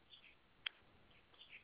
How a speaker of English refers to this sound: Y'all hear them birds.